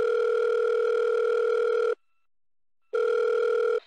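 A loud phone line ringing tone heard through the handset while calling someone's father: a steady two-second buzz, a brief silence, then a second ring begins. No one speaks.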